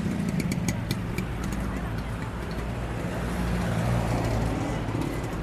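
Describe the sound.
A car engine idles steadily from inside the vehicle while it waits in a queue at a petrol station to fill up, amid a fuel shortage; a constant low rumble with faint ticking and muffled background voices.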